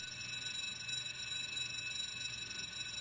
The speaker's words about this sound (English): So we've got a bell. In this case, it's a 70 decibel bell.